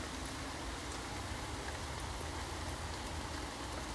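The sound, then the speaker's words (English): Steady rain pattering on a man-made wooden canopy over a bench in a woodland, a dense continuous hiss broken by scattered sharper drips, fairly quiet and even throughout with no voices. “Despite the rain, it's absolutely wonderful just to sit here and breathe it all in”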